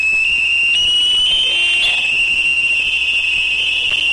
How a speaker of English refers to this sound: A Navy destroyer, the USS Shoup, was using active sonar as part of an exercise in Harrow Strait, generating pulses of 140 decibels or more. That's as loud as standing near a fighter jet during takeoff.